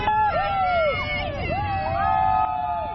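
On a picket line at a North American Goodyear plant during a United Steelworkers strike, workers holding strike signs shout and chatter while passing vehicles honk in support, long overlapping blasts whose pitch bends up and down as they pass, steady and fairly loud over the babble.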